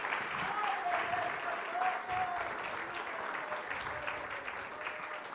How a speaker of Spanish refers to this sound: Un aplauso Amen. Al Señor. Aleluya.